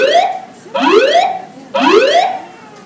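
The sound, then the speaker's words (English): A loud building alarm sounds in repeating rising whoops, three sweeping tones about a second apart, harsh with rich harmonics, with no voices over it. “An alarm has been activated.”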